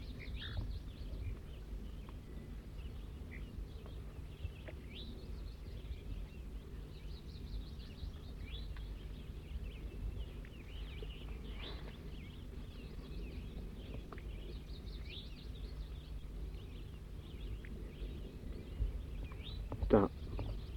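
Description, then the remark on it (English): A wild bird giving zezer notes: short, high chirps and thin whistled notes come scattered and irregular throughout, fairly faint over a steady low rumble, with a brighter burst near the end. “Recording the wild bird a little bit louder now.”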